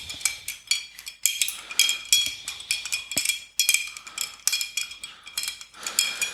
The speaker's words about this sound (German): Endlich ein Glas, in dem man auch ordentlich rühren kann.